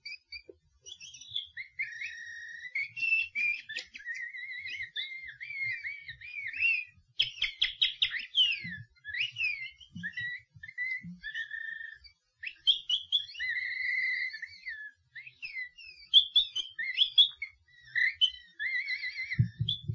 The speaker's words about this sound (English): Let us gently open this window from these windows to the past, to the enchanting warble of the nightingales.